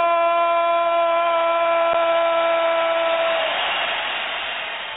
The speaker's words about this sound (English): I was thinking that the jet flyover was just for me. I was thinking that's all special.